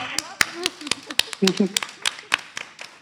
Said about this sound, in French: Bah, merci beaucoup. Je sais pas si on a le droit d'applaudir à la radio ou pas.